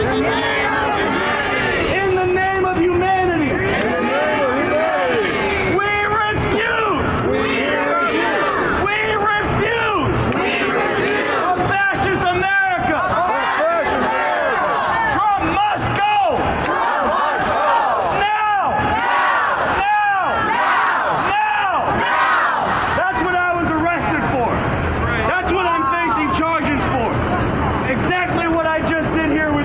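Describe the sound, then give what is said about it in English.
A large protest crowd, mainly immigrant youth and supporters of immigrant rights, chants and shouts together with raised fists, "in the name of humanity, we refuse to accept a fascist America", loud, a dense wall of many voices rising and falling in rough rhythm for the whole stretch. “was arrested for leading a crowd of people, mainly immigrant youth and those who are supporting immigrant rights, in making that chant, in the name of humanity, we refuse to accept a fascist America.”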